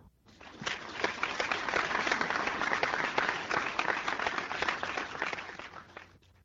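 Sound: applause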